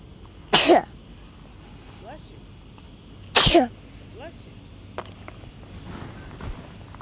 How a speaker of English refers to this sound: I'm blowing my nose. Okay, I've got a tissue over here.